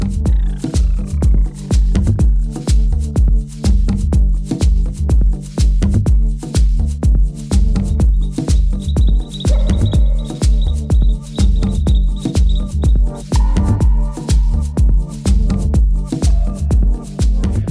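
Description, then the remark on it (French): A loud, steady music track made with recorded songs of endangered and threatened bird species, with a driving regular beat and layered tones, and bird-song-like chirps and whistles woven through the mix; no one speaks. “En fait, il a proposé à une dizaine d'artistes sud-américains de faire des morceaux avec des sons d'oiseaux en voie d'extinction ou des espèces menacées.”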